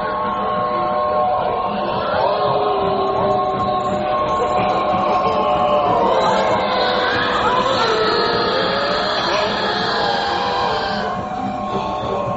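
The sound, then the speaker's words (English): An old train with black smoke rolls by in a dense, continuous roar, with wavering organ-like tones of an organ playing by itself sounding over the rumble for the whole stretch, loud throughout. “There we saw our very old train pass with black smoke and an organ playing, but nobody playing.”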